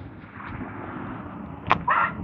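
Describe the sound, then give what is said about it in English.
A garbage truck over a steady low engine rumble, with a sudden sharp metallic bang followed by a brief high squealing hiss, both louder than the droning background. “Garbage truck.”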